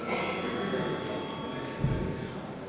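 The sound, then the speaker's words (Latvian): A continuous electric bell rings steadily for the whole stretch in parliament, called before deputies vote on granting urgency to a bill, a loud, even metallic buzzing with a faint low murmur beneath it. “Lūdzu zvanu.”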